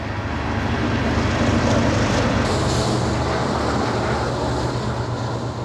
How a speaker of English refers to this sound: Train loads of 120, car loads of coal, one after the other. Each car has 200,000 pounds of coal in it, and those line up all day long and go through Edgemont.